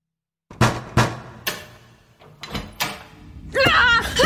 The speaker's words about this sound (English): Proceeding to the door, reaching out and breathing out, I clicked it open.